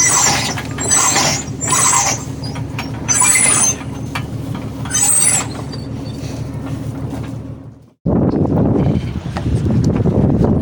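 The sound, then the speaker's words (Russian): Mechanical ratcheting and clicking in rhythmic bursts as a winch is cranked to hoist a red sail on a sailboat, then it cuts off and steady rushing wind-and-water noise takes over. “Пора ставить парус.”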